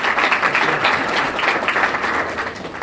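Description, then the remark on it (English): A crowd applauds steadily, the dense patter of many hands clapping at once at a fairly loud, even level throughout, as a board chair is brought up to introduce the Community Loan Center in Bryan-College Station. “Mark, a round of applause.”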